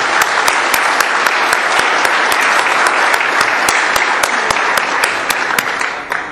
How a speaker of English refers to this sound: And I am happy to announce that this has become the largest Mulch and Soil Council meeting ever with 176 people. So that, and we should have a round of applause for sure.